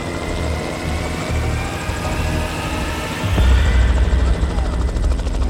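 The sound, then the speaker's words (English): A Melbourne police helicopter surveys a property's land, its steady rotor chop and engine roar filling the scene, the low thudding growing noticeably louder partway through as it passes overhead. “So Melbourne police arranged for a helicopter to go out and survey the land.”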